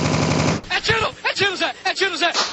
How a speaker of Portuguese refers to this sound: Chama o homem, cara, isso daí acho que é Uzi. Uzi é fraquinho, então.